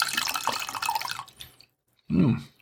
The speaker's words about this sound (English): And I need to pour a little bit more of this wine.